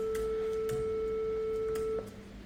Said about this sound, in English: Increase the volume slowly. That's a beautiful, smooth, continuous, and perhaps slightly boring sine wave. You can stop the sound with Control period.